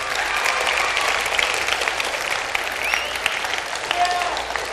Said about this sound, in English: We've all seen these memes, and yes, we are free in this land, thanks to the great men and women that serve in our armed forces. But, yeah, clap. Go ahead.